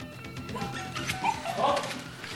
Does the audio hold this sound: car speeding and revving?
no